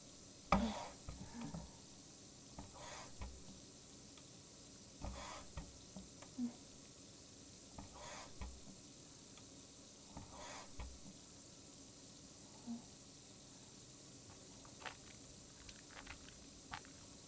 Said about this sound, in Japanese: ハンドソープを泡立てます。